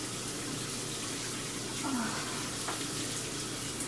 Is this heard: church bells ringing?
no